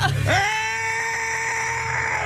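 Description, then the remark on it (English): A single loud, high-pitched scream of joy at having made it swoops up sharply and then holds steady for about two seconds, with a slightly bleating, strained edge. “That was a scream of joy because we made it.”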